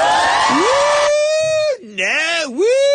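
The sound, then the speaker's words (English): A single voice lets out a long, loud, wavering whoop that swoops up and down in pitch, imitating a screaming, cheering studio audience, with a brief burst of crowd-like noise at the start. “Part of the problem with watching that show is they scream and yell and cheer constantly.”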